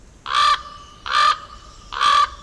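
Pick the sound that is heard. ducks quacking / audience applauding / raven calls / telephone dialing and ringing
raven calls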